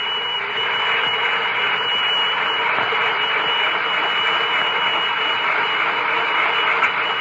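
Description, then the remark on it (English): A toy fire engine gives off a loud, steady whirring buzz that drones on without a break for about seven seconds, with no voices over it. “Have we an extra fire engine?”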